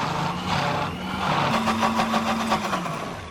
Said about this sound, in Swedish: Så man mixar allt bara i en mixer? Ja, det är väldigt enkelt.